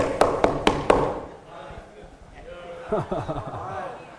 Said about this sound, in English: And I guarantee you, he didn't come to the door like that. No, it was more like the impatient child wanting to get in the room. You ever had someone impatiently knock on a door?